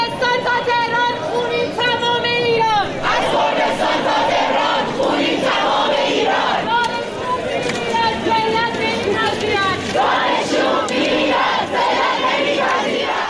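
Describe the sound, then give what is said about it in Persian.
A large crowd of students at Shahid Beheshti University in Tehran chants protest slogans over the killing of Mahsa Amini, in solidarity with Kurdistan, loud and continuous, with strong voices rising and falling in repeated rhythmic phrases and shouting over a dense, steady babble. “در دانشگاه شهید بهشتی دیروز صبح یعنی سه‌شنبه تعدادی از دانشجویان دختر مقنعه هاشون رو آتیش زدن و البته مجموعی از شعارهای بسیار تند رو دادن”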